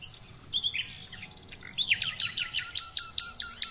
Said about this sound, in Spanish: Comenzamos percibiendo cómo nos muestra la naturaleza toda su frescura en el caso de este robledal que brilla en una mañana de primavera. Los ruiseñores, los carboneros y el cuco en la lejanía nos introducen en la espesura del monte.